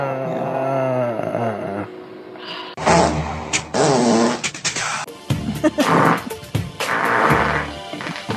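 long

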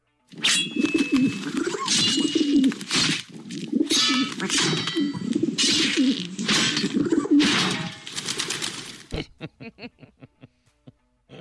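pigeons cooing

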